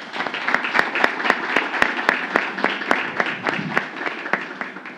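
Steady applause from an audience paying homage to Isabelle, an 11-year-old child, fills the scene, with many hands clapping in a dense, continuous patter and a few sharper, louder claps standing out. No voices rise above it.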